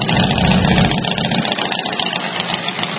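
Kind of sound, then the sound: vehicle, motorcycle engines idling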